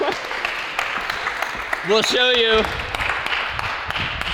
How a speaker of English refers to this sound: All right, a big round of applause.